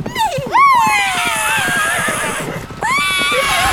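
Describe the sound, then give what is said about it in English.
Horses whinny loudly, one long shrill neigh followed by another near the end, while a rapid, steady clatter of hooves clip-clops underneath throughout. “Showtime, horsies! Let's go!”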